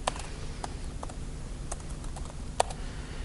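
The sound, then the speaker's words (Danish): Keys clacking on a computer keyboard in a quick, uneven run of taps, moderately quiet, with one sharper keystroke near the end and no voices, as someone types an on-click event handler in a code editor. “Det gør jeg her, skriver vi lige med.”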